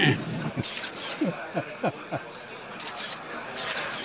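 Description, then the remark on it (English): A president imitates a goat on request with a quick run of four or five short, wavering bleats, amid rapid camera shutter clicks and a busy crowd murmur. “Imitate a goat, sir.”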